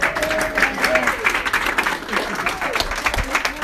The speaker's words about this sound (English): An applause for the team.